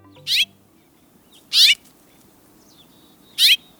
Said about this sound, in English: Have you noticed those little brown birds with red breasts at your bird feeders? Those are house finches, familiar birds all across North America.